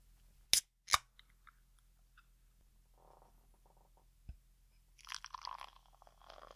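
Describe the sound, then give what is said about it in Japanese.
A BrewDog Indie Pale Ale beer being opened: two sharp metallic clicks, a few faint small knocks, then a bright fizzing hiss as it releases or pours. No one speaks. “開けるよ。”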